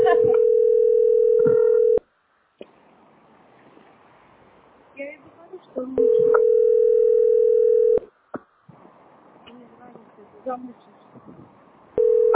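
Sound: telephone line tone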